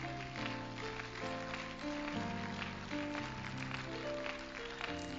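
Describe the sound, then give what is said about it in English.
An audience at a worship service claps in praise to the Lord in a dense, steady patter over sustained keyboard or organ chords that shift every second or so, the music and clapping holding an even, loud level throughout. “Let's clap our hands in praise to the Lord.”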